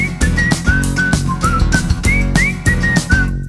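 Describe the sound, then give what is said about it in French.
Someone whistles a bright, lilting melody over a steady band accompaniment with a thumping beat, the notes gliding and hopping in short phrases. “Je sais siffler.”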